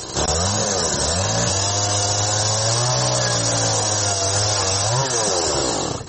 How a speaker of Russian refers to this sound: До того ж, вона майстерно орудує бензопилою.